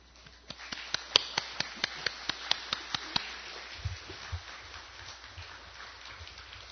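A short burst of welcoming applause for a university president coming forward to preach: about a dozen crisp, evenly spaced claps in a steady rhythm, then trailing off into softer, low thuds and shuffling with no talking.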